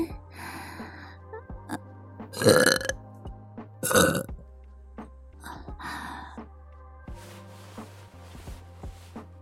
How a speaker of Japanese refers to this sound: ママのゲップ、甘くて臭くていい匂い？